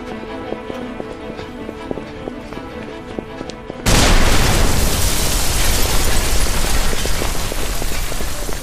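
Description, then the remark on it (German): Quiet rhythmic clicking and ticking is cut off by a sudden, loud explosion that bursts in and keeps roaring as a dense, sustained rumble until the end. “Warum muss bei mir immer alles explodieren?”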